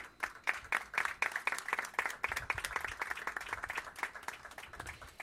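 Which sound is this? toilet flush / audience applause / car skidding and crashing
audience applause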